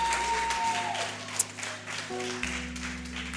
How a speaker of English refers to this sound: That was a beautiful song. Clap for DJ.